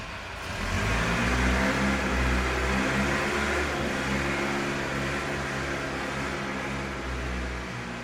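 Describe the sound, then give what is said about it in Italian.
A heavy diesel bulldozer engine drones steadily as it moves masses of earth at a construction site, its low harmonic rumble constant and loud for several seconds, with no voices. “Un sinistro e forse assordante rumore di macchina, movimento terra, lo immaginiamo, un bulldozer che muove masse di terra da un cantiere, magari di quelli che abbiamo sotto casa,”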